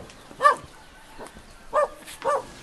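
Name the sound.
village dogs barking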